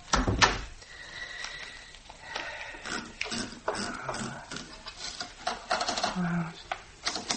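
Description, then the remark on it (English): A door thuds shut with a heavy low knock at the start, followed by a jumble of scraping, clattering and creaking household noises. “And shut the door, please.”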